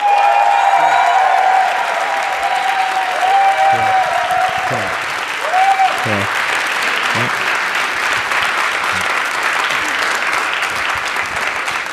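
Loud, sustained applause from an audience for a contestant act at a show, a dense steady clatter of clapping with some whistles and scattered cheers mixed in.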